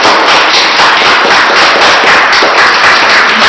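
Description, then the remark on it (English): Loud, dense audience applause for Team Blue fills the whole stretch, a steady crackling wash of many hands clapping at once with no break and no voices. “Could you give Team Blue a huge round of applause?”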